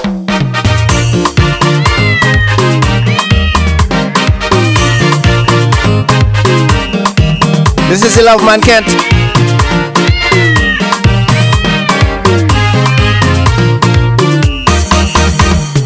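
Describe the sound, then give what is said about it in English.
A cat meows several times, rising and falling cries set against loud, steady music with a strong beat; a voice briefly speaks near the start. “I love you, kitty.”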